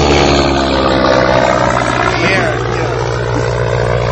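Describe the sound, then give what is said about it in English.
A loud, steady droning roar of airplanes passing overhead during a wedding ceremony as the vows are spoken fills the whole stretch, low and rumbling, with muffled voices buried beneath it. “Every time, as soon as … starts talking, these airplanes start going above.”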